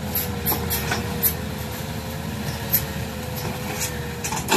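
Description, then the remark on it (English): Cranes scoop dirt and chainsaws cut down trees in the jungle in Laos, where Chinese engineers are building a new train line: heavy machinery rumbles steadily, with an engine drone and a wavering mid-pitched chainsaw whine, broken by scattered metallic clanks and knocks. No one speaks. “Cranes scooping dirt in the jungle and chainsaws mowing down trees.”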